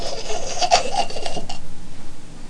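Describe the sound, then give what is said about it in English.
A voice imitates a chainsaw with a harsh, raspy, buzzing noise lasting about a second and a half, fairly loud, then cutting off into quiet. “Soon you'll be able to get your machine gun, go up to someone, not shoot them, and stick your chainsaw right in their gullet.”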